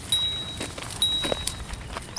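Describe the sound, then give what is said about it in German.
Quiet outdoor ambience at the Werratalsee lake near Eschwege on a sunny spring day: two thin, high bird whistles repeat about a second apart over soft footsteps and a faint, steady background hiss. “Man hört nur ein paar Vögel, das Wasser, Fahrradfahrer und Fußgänger.”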